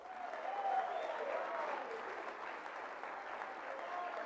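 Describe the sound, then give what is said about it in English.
A crowd applauds steadily for about four seconds for Southern Nazarene University's athletic legacy of 10 national championships, 6 in basketball and 4 in track and field, a dense, even wash of many hands clapping with no clear individual beats, holding a fairly constant loudness throughout. “It's all right to applaud that.”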